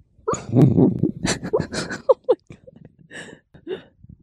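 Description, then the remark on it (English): A sleeping female dog having a dream makes dream noises: a low, muffled growl, then scattered snuffles, breathy huffs and a few short high whimpers in an irregular, twitchy rhythm. “These are the sounds of little Mia having a bit of a dream.”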